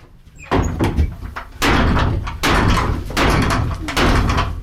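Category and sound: household object, door slamming shut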